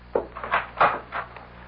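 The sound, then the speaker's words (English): A door opens with a short series of woody creaks and clunks, four or five uneven bursts, with no one speaking. “Don't you hear? Just outside the door.”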